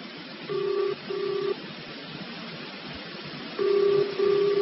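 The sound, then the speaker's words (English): A telephone line rings out in the receiver during a call to the army: two pairs of short electronic double-rings separated by a pause, heard over a steady background hiss with no voices. “I'd better let it ring a bit longer. There's bound to be somebody there. I'm phoning the army. Come on, answer the blooming phone.”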